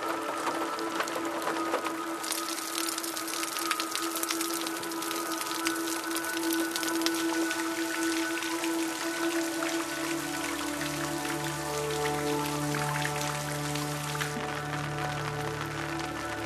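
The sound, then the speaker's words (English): Steady rain patters densely and evenly throughout, a crackling wash of drops, with a sustained low tonal drone humming beneath it. “If only there could be something equivalent to rain falling inside, then the whole of a room would take on shape and dimension.”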